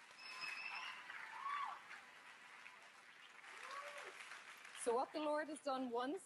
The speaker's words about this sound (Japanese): その礼拝の時間も含めて、ワーシップの時間も含めてですけれども、主を褒めたたえましょう。拍手して叫んで主に感謝をしましょう。